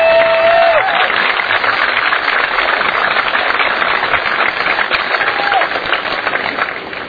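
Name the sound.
audience applause and cheering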